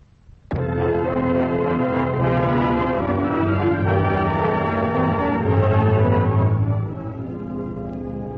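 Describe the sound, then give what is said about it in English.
A radio network's three-note chimes: bell-like chimes strike suddenly and ring on as a full, sustained tone for several seconds, swelling slightly near the end. Clear and fairly loud, with no talking. “you are invited to listen for the familiar NBC chimes, your signal for fine radio entertainment”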